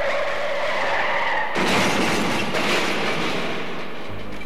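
race car braking hard

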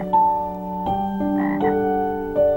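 toads croaking

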